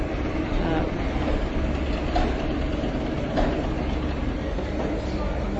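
A steady, continuous low rumble of a train at a platform of the main railway station fills the scene, with faint background voices mixed into the hum.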